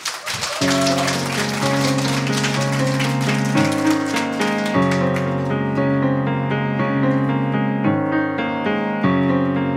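A concert audience's applause for a singer about to play songs from her new record rises briefly, then keeps pattering faintly beneath sustained, low, chordal music that starts almost at once and takes over, the clapping thinning out over several seconds.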